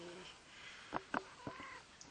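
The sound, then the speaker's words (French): A cat named Sweetie gives a few short, quiet meows in quick succession, followed by a slightly longer, drawn-out mew, all fairly soft against a faint background. “Et Sweetie vous salue également par un joli miaou.”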